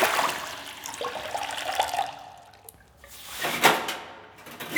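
water splashing

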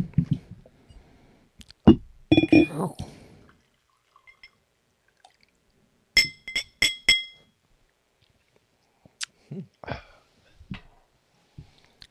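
glasses clinking

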